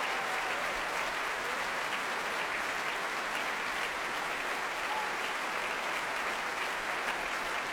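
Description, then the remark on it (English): Sustained applause from a large concert audience as the soloists, mezzo-soprano Christian Stottein and baritone Simon Keeneyside, are brought to the front of the stage; a dense, steady wash of clapping that holds at an even, fairly loud level throughout, with no voices standing out. “Bringing them to the front of the stage, and you can hear the response of the crowd.”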